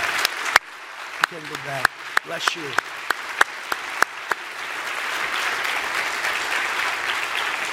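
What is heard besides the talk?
audience applause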